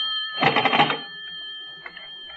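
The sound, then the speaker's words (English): A telephone bell rings in a single rattling burst lasting under a second, followed by a faint, steady high tone that lingers as the ring fades. No one speaks. “I'd better answer it. It might be the operator.”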